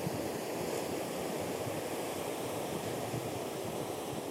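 waves on a beach

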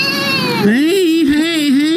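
kitten crying

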